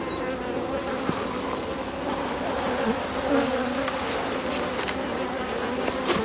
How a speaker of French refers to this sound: Ici vous pouvez voir en fait qu'il y a beaucoup de nectar ici en bas et en fait du miel qui est operculé. Donc sur un cadre il y a à peu près 2500 abeilles.